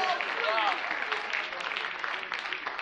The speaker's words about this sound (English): Yes. That's why you clap for her. She's just partaking of the grace.